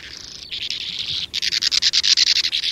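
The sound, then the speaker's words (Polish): A swallow flying in near its nest burrow in a colony gives a dry, buzzy trill of rapid, evenly repeated high notes, first a smoother run, then a brief pause before a faster pulsing series. The trill is fairly loud and there is no talking. “Dolatując w pobliże norki, treluje podobnie jak powracająca do gniazda oknówka.”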